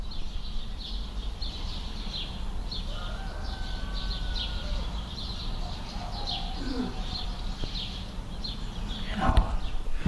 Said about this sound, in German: Kurz nochmal ein bisschen Natur. Hier ist Vogelkonzert.